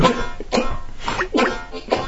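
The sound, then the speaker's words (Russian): A person imitates someone's cough with a series of four or five short, harsh, raspy bursts in quick, uneven succession, fairly loud. “Не, он именно вот как кашляет.”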